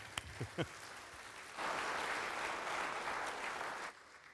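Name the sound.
audience clapping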